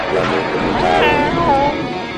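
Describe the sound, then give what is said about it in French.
A person imitates a cat, voicing a drawn-out, wavering meow that rises and falls, fairly loud over a steady background hum. “Hey, dès que je t'apprenne à miauler comme ça, regarde.”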